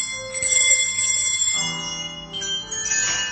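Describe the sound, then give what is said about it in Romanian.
Small hand bells, one held by each pupil in a class, are rung in turn while the children watch the board and their teacher: bright overlapping chimes with lingering tones, shifting in pitch as different bells sound, with no talking. “La o altă oră, fiecare dintre elevi are un clopoțel. Cu ochii la tablă și la profesoara lor, sună clopoței după cum le vine rândul.”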